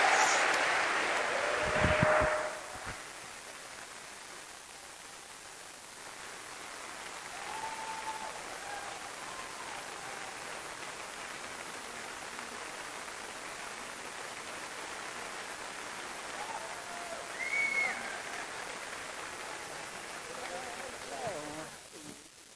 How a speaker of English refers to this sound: Give them another round of applause so we don't walk on awkwardly.